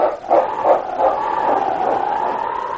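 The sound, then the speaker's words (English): A massive dog lets out three quick, fairly loud barks in a row, then one drawn-out, whining bark that trails off, as it turns and races down a trail, with no one talking. “And then, barking his determination, King turned and raced down the trail.”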